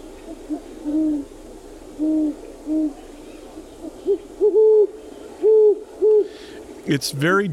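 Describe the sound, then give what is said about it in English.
Deep, soft hoots from a pair of great horned owls duetting back and forth in rhythmic phrases, one voice slightly lower than the other, heard clearly against a quiet night background with a brief rustle at the end. “So that's a good handle for remembering the great horned owl.”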